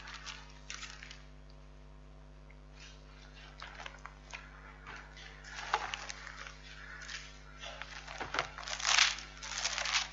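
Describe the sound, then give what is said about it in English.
Thin Bible pages being turned and handled while looking up James chapter 1, with repeated crinkling and rustling bursts, some sharper and louder near the end, over a low steady hum. “My pages won't turn open properly.”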